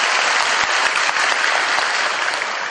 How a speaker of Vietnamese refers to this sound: Chúng ta cho một tràng pháo tay chào đón.